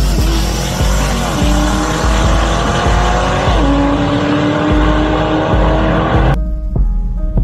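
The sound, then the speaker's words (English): A Corvette E-Ray's loud engine roars at high revs during a drag racing launch, its pitch climbing and dropping through a few gear changes with a harsh tire squeal as the tires spin, then cuts off abruptly near the end. No one speaks. “Dude, an E-Ray. God, they spun like a motherfucker.”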